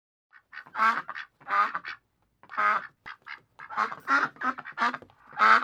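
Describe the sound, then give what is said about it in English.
A duck quacks repeatedly, about eight nasal, raspy calls in uneven bursts with short pauses between, fairly loud with no other sounds. “What is this? It's a duck.”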